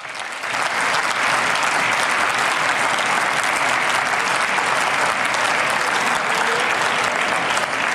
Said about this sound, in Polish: a ja bardzo gorąco i serdecznie po tych oklaskach, które Państwo słyszycie.